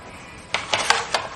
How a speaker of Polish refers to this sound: To i to są dosyć spore, więc tak może po 5. Gniotę w rękach wrzucam do szklanki.